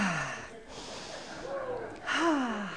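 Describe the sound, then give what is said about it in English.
Slow, deep breaths drawn in and pushed out as a breathing exercise, fairly loud, with breathy rushes of air and a couple of audible inhales over a few seconds. “Everyone breathe.”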